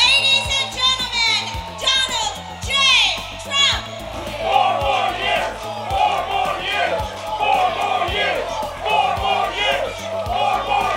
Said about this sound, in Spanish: Al grito de 4 años más, fue recibido Donald Trump en Charlotte, Carolina del Norte